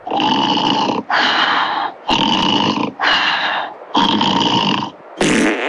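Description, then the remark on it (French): A man snores while asleep at night, recorded by himself: loud, rasping snores repeat in a steady rhythm, five long breaths of rough, rattling noise about a second each, separated by short pauses, with a sharper burst at the end. “Ah bah oui, je ronfle.”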